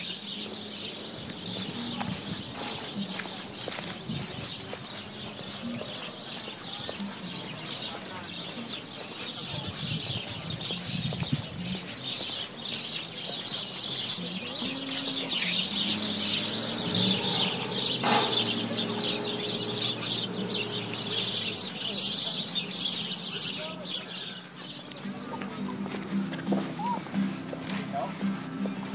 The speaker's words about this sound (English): And now for a walk through the Dana Point Marina. There's a tree along the walkway that's completely filled with little birds. There they are.